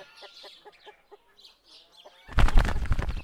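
chickens clucking

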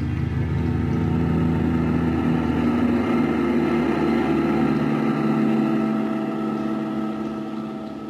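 car engine driving

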